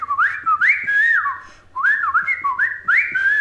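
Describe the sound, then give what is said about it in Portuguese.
A great kiskadee (bem-te-vi), a sound of spring, calls in two loud bursts of clear, whistled phrases, each note sliding up and down in a bright, fairly high pitch, with a brief pause between the bursts. “Outro som que é muito forte até hoje, mexe muito comigo, é os sons da primavera, que são especialmente o Bentivy.”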